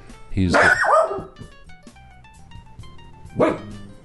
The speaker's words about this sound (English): You may hear another dog, and I'm surprised.